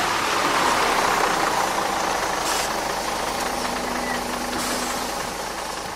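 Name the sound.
bus engine running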